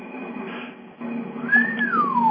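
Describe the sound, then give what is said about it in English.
A pet bird, Buddy, whistles a thin, steady high note, then a clear rising tone that bends and glides downward, over a low background hum with no talking. “Birds everywhere here.”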